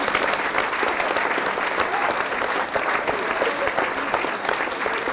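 Steady, dense applause from an audience, many hands clapping at an even loudness for several seconds with no pauses and no voices standing out.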